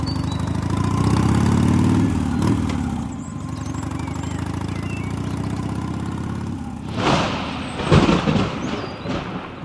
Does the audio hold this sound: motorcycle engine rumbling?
yes